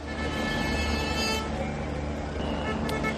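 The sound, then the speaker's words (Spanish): Dense road noise of tractors with loud, sustained horn blasts sounding over the rumble, sharp honks cutting through near the end, as protesting farmers block the Nacional 6 highway near Benavente, Zamora, in Castilla y León, Spain, watched by a Guardia Civil helicopter overhead. “Es el momento en el que los agricultores saltaban a la carretera ante la atenta mirada por el aire del helicóptero de la Guardia Civil.”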